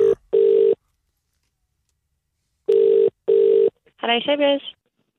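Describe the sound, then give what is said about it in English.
A telephone ringback tone purrs in two double-burst rings separated by a pause, clear and steady, as a call is placed to The Mirror newspaper, before a voice briefly answers at the end. “So who are you ringing? Well, I just thought I'd ring a lady at 3 a.m, which is a section of...”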